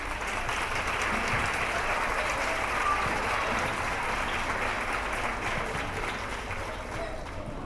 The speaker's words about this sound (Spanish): Y uno al final se entrega, y yo sé que ellos se entregan lo máximo posible y hacen un esfuerzo tremendo para que sus alumnos aprendan a tocar instrumentos y avancen en este mundo que es la música. Así que pido, por favor, un aplauso para ellos.